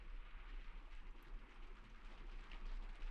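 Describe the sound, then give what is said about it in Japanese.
Steady rain falling in a continuous, even hiss with a soft patter texture, moderately quiet and unbroken throughout, with no voices or other distinct sounds. “それにこの雨の中、傘もささないなんて。”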